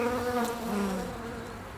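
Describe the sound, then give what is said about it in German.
A steady buzzing of bees hums continuously with slight wavering in pitch, no voices present. “An einen Baum angelegt, saß er auf dem Waldboden, schaute den Ameisen bei ihrer Arbeit zu und hörte auf das Summen der Biene, die ebenfalls sehr fleißig waren.”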